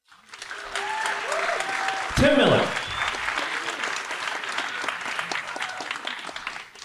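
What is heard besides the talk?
audience clapping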